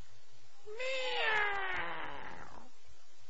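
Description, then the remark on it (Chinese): A single drawn-out cat meow, rising then sliding down in pitch over about two seconds, heard clearly on its own with quiet around it. “猫啊，呵，把石谦气的，心想这个该死的猫啊，你把我吓得差点没掉楼下边去。”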